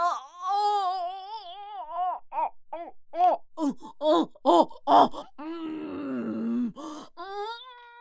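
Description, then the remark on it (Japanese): A woman straining to pass a bowel movement lets out exaggerated, labor-style groans as if giving birth: a long wavering moan, a rhythmic series of short straining pushes, then a low strained groan, loud with no words. “ねえ、赤ちゃんを産む時ってこんな感じね。”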